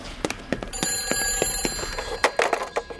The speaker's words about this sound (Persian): معذرت میخوام، باید به تلفن جواب بدم.